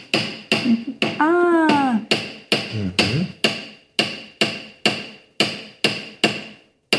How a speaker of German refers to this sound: Man kann das auch so ein bisschen Texturen mitmachen mit dem Hammern auch. Wenn du das einfach ausprobieren willst, dann Darfst du auch einfach so hier so nicht so hart hammern, aber und dann drehen.